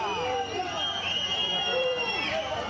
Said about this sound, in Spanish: Silbidos al presidente del Gobierno.